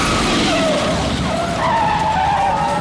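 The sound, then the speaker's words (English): A motorcycle's tire skid screeches loudly for about three seconds as it crashes into a car pulling out in front of it, its squeal wavering in pitch over a dense roar of engine and road noise, with no voices. “The motorcycle goes flying in a shower of sparks. The biker is thrown to the pavement.”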